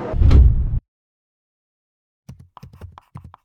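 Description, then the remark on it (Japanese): A heavy train sliding door rumbles shut in one loud, low sweep lasting under a second, then after a pause a burst of faint clicks and knocking rattles follows, like doors settling and latching. “扉閉まります。”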